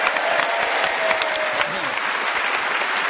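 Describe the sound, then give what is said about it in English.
Steady, loud applause from a large audience for the winner at the end of an edition of the panel game Just a Minute, dense clapping filling the whole stretch without a break, with faint voices murmuring underneath. “A round of applause.”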